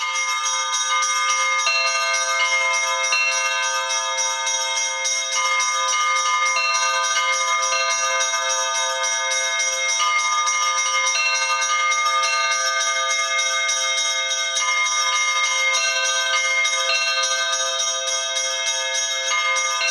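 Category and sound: signal or alarm, church bell ringing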